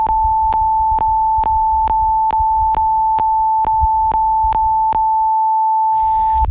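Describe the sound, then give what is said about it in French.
A steady, pure sine-wave tone holds loud and unbroken while a regular electronic beat clicks and thumps beneath it. The beat drops out near the end, leaving the tone with a faint hiss. “vous voyez que quand même, on peut faire un bed avec juste voilà, une onde sinusoïdale à 440 Hz.”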